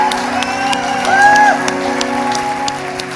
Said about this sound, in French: l'applaudir chaleureusement. So let's give him a warm, warm welcome.